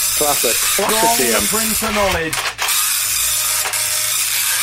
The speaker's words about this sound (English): Just print it off. All right. It's quite a slow printer